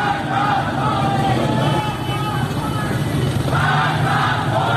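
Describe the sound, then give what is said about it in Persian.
A large crowd of protesters in Iranian cities such as Rasht and Zahedan chants slogans like 'Death to Khamenei', 'Death to the dictator' and 'Freedom, freedom' in unison, a loud, steady roar of many voices rising and falling in rhythmic, shouted phrases throughout. “در شهرهای رشت، عراق و زاهدان هم معترضان شعارهایی از قبیل مرگ بر خامنه‌ای و آزادی آزادی سر دادند.”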